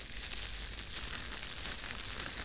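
A steady, bright fizzing hiss with dense crackling pops throughout, like carbonated bubbles bursting continuously at an even, soft level with no voices. Heavily carbonated foam is being made, its bubbles popping by the ear.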